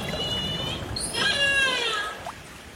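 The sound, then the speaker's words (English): Calls of the killer whale Kwisa Hayes in a lagoon, recorded underwater by researchers with a hydrophone: a few drawn-out, rising and wavering squeals with a piercing upsweep, heard over a constant low rush of water noise. “Her calls recorded by researchers using a hydrophone, likely gone unheard by her pod out in open ocean.”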